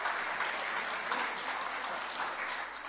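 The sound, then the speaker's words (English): Sustained applause from an audience for a man who ate pig's food, a dense steady patter of many hands clapping at once, fairly loud and even throughout, with no voices standing out above it. “I think he needs a round of applause for that.”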